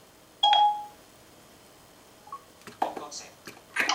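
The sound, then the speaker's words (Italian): A phone call placed by voice command through Siri starts with a short, clear electronic tone, followed by a brief faint beep, then soft, breathy voice-like sounds; the call is hung up immediately. “Ecco, abbiamo messo giù immediatamente in modo che non gli suoni il telefono, povero anche in ferie.”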